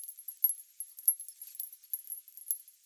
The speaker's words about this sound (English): But anyways, I noticed as the tin started to cool after it had stopped vibrating against the dry ice, it started making this really, really light tinging sound as it cooled.